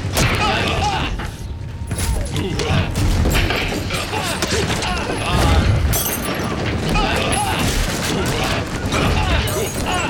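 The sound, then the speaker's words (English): A chaotic scuffle in a tea parlor as a struggling pair roll across the floor, knocking over tables and chairs: furniture crashes and clatters with repeated thuds, scraping and breaking sounds, loud throughout, with voices grunting and shouting amid the commotion. “Knocking over tables and chairs in their path.”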